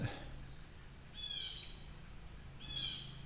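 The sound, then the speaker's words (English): Two bursts of harsh, excited bird calls, each lasting about half a second, at a creek among trees, with a brief spoken question at the very start. “Okay, more birds freaking out.”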